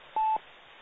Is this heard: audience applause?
no